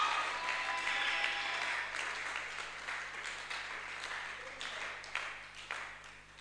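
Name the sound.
audience clapping and applause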